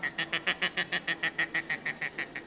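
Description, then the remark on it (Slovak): A person imitates the calm call of a duck, giving a rapid, evenly paced run of about fourteen nasal quacks, clear with no talking. “Hej, viem si kačičku urobiť takto.”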